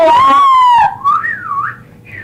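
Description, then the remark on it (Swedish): Loud whistling from an audience, a steady high tone with rich harmonics that then breaks into several rising and falling whistles overlapping one another, with no talking. “Ja, du hör ju folk i publiken, jular och här.”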